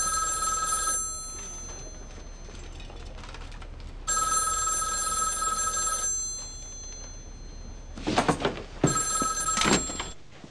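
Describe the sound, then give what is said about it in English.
A telephone rings in two long electronic bursts separated by silence, then a handset clatters as it is picked up. No one speaks. “I'm calling Wes.”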